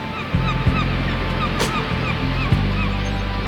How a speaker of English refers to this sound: saw a lonely gull make its way back home.